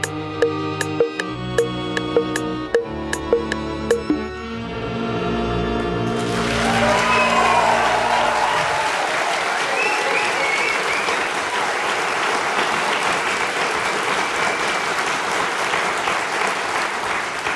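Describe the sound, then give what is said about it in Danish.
A short stretch of music with sharp, plucked-sounding notes ends, and an audience of the Danish radio show Hjernekassen on P1 breaks into loud, steady applause that continues unbroken for about ten seconds. “Tusind tak, og kære lytter, det bifald kommer vi tilbage til om et øjeblik.”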